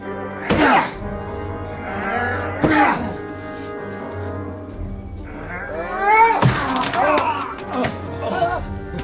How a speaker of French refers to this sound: Enfonçons la porte!